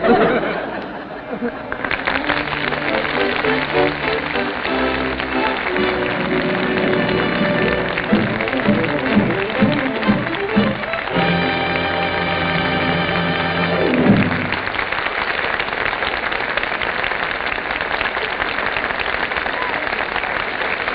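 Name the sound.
enthusiastic audience applause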